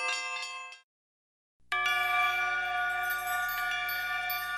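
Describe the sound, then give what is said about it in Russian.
Newly consecrated church bells of a future cathedral are struck for the first time by Bishop German and the church rector: a short ringing tone cuts off, then after a brief silence a loud, sustained peal of overlapping bell tones rings out and keeps sounding, with no voices. “По завершении освящения владыка Герман вместе с настоятелем храма совершили первые удары в освященные колокола. И чистый, определенно настроенный звук возвестил начало нового этапа в истории будущего кафедрального собора.”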